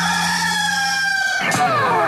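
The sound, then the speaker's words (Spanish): A rooster crows once, loud, a long strained harmonic call that holds steady before breaking into a rough, falling finish, with no voices around it. “¡Este es el gallo!”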